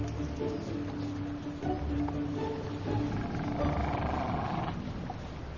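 Seals call with low, drawn-out moaning groans that overlap steadily against a rough, wind-like outdoor background, moderately loud, with no clear pauses, in a park of sandbanks and wet meadows where grey seals and common seals live.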